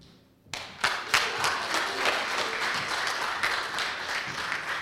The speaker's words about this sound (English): We should give the Lord another hand clap of praise because he saved us.